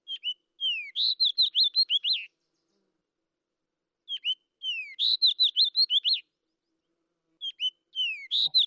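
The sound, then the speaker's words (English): A fox sparrow sings three times, each song a bright, musical run of clear whistled notes and slurred phrases lasting about two seconds, separated by short pauses, alone with no talking. “So our last bird of the week, the fox sparrow, is very musical.”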